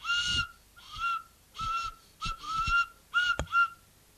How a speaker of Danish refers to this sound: Og og musen er en lille fløjte, der siger sådan her.